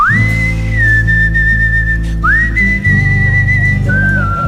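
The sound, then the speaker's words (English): A person whistles a TV show theme tune as a slow, sustained melody in long gliding notes, clear, over a steady low droning background hum. “older folks, if you could help out the younger people by translating this thing that I'm going to whistle to them, it's very helpful”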